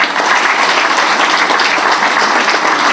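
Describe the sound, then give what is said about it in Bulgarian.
Dense, steady, loud applause from a large crowd at a Bulgarian election campaign event of the DSB coalition, given for Evgeny Chubanov, list leader in Dobrich, fills the whole stretch with no voices breaking through. “Но аплодисменти за него.”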